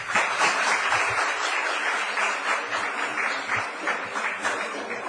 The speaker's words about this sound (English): A round of applause, please.